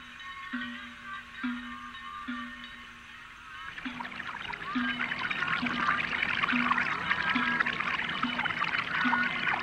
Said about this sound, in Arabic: إنها عين ماء يا أبا طالب، إنها معجزة يا الله. وتزودوا من الماء، إنها الماء، إنها كرامة ابن أخي محمد.